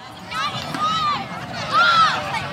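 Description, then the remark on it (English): A handful of kids take turns launching a small white stomp rocket in a meadow at the northern edge of Golden Gate Park, San Francisco, on a gray Saturday afternoon; two rising-and-falling shouts or whoops carry over a steady open-air background of breezy noise and chatter. “It's a Saturday afternoon in Golden Gate Park, and a handful of kids are taking turns sending a little white stomp rocket into the gray San Francisco sky.”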